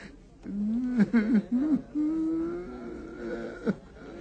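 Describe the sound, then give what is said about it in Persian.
A person whimpers and cries on command in a high, wavering voice, with broken sobbing catches that give way to a long drawn-out moan, fairly clear, no words spoken. “میبینید رسم گریه و خنده را میداند.”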